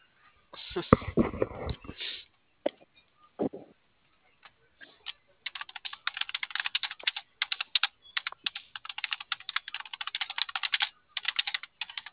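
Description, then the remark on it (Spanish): Rapid computer keyboard typing: a steady patter of sharp clicking keystrokes fills the second half, following a few louder clattering bumps and scattered taps at the start. No one speaks. “Sí está prendiendo el teclado.”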